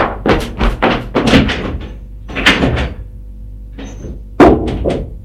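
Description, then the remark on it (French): A fist pounds on a locked door in uneven bursts of heavy, booming thuds, some rapid clusters and a few single blows, loud throughout with a brief quiet gap before a final hard strike. “Tape du poing.”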